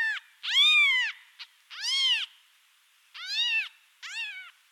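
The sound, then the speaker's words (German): A kitten meows repeatedly, four or five high, thin cries in an uneven rhythm with short pauses between, clear with no other sounds. “Zum Vergleich die Rufe eines Jungtieres.”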